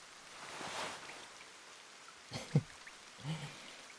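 Steady rain hisses evenly throughout, moderately close, with a couple of louder drips or taps landing near the end. No voices.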